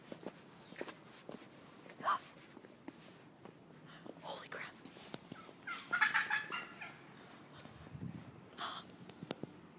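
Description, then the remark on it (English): Wild turkeys gobble in a loose, overlapping chorus in front of a house, with soft footsteps and quiet whispering between the calls. “Turkeys.”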